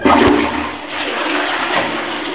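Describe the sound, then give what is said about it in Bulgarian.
A toilet flushes, a loud rush of water that starts with a sharp burst and then churns steadily for a couple of seconds, with no voices. “Прокуратурата ще разследва кой е записвал тоалетната на бившия премиер.”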